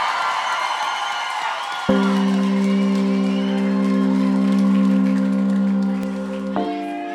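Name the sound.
audience cheering and whooping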